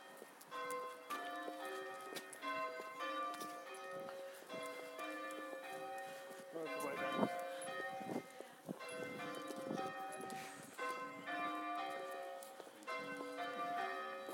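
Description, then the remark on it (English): Church bells are rung by a team of bell ringers, pealing continuously in a steady, overlapping sequence of ringing strikes, their tones hanging and blending together. The sound is fairly quiet, with no voices. “I'll say one of the bell ringers is missing.”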